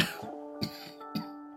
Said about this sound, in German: Dein Husten hört sich aber gar nicht gut an.